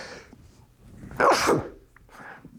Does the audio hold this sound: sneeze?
yes